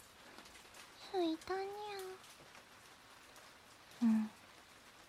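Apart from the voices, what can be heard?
rain falling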